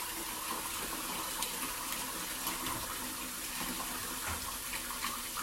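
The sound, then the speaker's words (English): Cold water runs steadily from a tap, put in right after boiling water is poured out during cooking, a continuous bright rushing hiss with small splashy flickers throughout, no voices, holding an even level for the whole few seconds. “And immediately put in cold water.”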